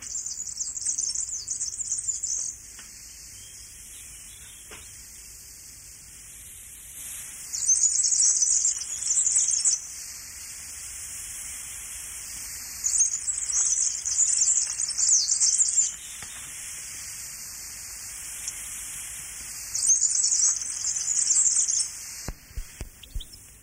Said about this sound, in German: Das war der Gierlitz. Er ist ein Vogel, der in den Obstgärten brütet und in der Umgebung gern so Magerwiesenflächen hat, auf denen Blumen, wo es viele Blumen gibt, wo die Blumen auch können stark gelassen werden, bis sie fruchtet und Samen bildet.